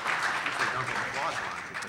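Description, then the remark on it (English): A Federal Society audience claps for the speaker in a dense, steady wash of applause that holds at an even level throughout, with a hint of voices mixed into the noise. “The Federal Society applauding me?”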